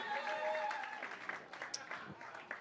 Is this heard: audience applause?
yes